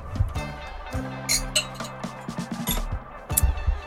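Sparkling wine is poured, with glass clinks and small clattering sounds over a few seconds, while a low hum and faint voices sit underneath.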